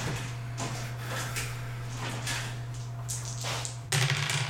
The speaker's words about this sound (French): 25, donc faut que je lance un des 20 plus un des 6 et que je retranche un. Où sont mes dés? Voilà.